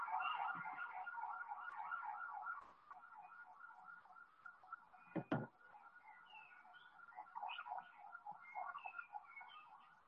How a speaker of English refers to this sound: That fire engine or that's Netanyahu going by?